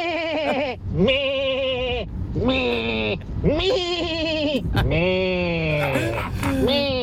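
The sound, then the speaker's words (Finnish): A person imitates a sheep during an animal karaoke segment, letting out five or so loud, quavering bleats in quick succession, each with a shaky, wobbling pitch and barely any pause between them. “Toinen hyvä, että miltä lammas kuuluu.”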